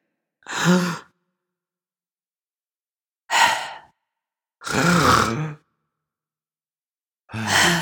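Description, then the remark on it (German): A voice imitates the loud, heavy breathing of a man asleep in bed: four drawn-out, noisy breaths with long silent pauses between them, rough, some with a throaty, groaning edge. “Was Julius aktuell noch macht, ist unfassbar laut zu atmen.”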